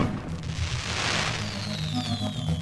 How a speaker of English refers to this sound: Now to the mystery explosion that rocked a southern New Hampshire town.